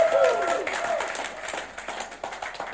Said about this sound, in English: Love these guys so much. Come on, we'll just give Pastor Dan and Tini one more round of applause.